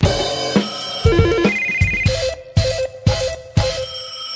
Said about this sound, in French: Oui, excusez deux secondes, j'ai oublié de couper le téléphone. Ça sonne.